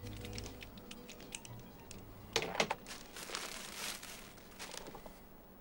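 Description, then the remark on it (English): Crinkling and rustling of a wrapped bouquet of pink roses being picked up and handled by a man who has pulled up outside a large grey house, soft intermittent crackles with a brief burst of sharper crumpling near the middle, and no voices. “He takes off his sunglasses and picks up another bunch of pink roses.”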